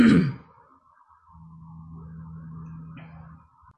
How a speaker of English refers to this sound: sorry, I have to clear my throat again. It's the wind and pollen. Hold on.